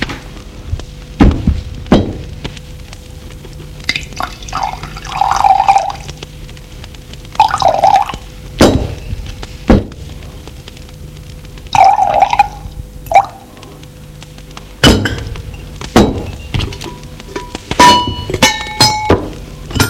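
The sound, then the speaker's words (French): Tea is poured into cups in several short bursts, each a gurgling trickle, between sharp clinks and knocks of china and spoons, as it is served with sugar, lemon and a drop of milk. Moderately loud, with no talking. “Thé, avec sucre, citron, lait, une goutte de lait. Merci. Et elle fait le service.”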